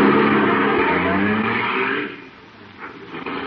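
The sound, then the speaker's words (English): A car engine, started with the starter in the radio show The Great Gildersleeve, rumbles loudly, then the car pulls away, its roar falling off after about two seconds and leaving a quieter, uneven hum behind. No one speaks. “The car might be hard to start again some morning.”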